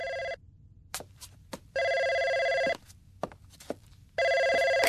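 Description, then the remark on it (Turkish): A telephone rings in three loud, steady bursts, each lasting over a second with pauses between, while faint clicks and low background noise fill the gaps. “telefon sana.”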